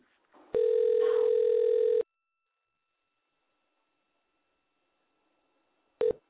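A phone line ringing on the other end: one steady, buzzy ring tone lasting about a second and a half, a long silent pause, then the next ring just starting.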